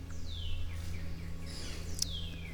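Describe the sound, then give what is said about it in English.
Outdoor birds beside a creek give a few thin, high chirps, sliding downward in pitch, one early and another near the end, faint against a steady low background hum. “And, you know, I'm not seeing any dudes other than a couple of birds here and there.”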